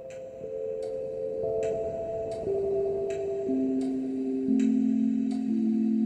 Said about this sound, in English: We'd be at home in Queens and I'd be perched in front of this old grandfather clock, watching the pendulum click back and forth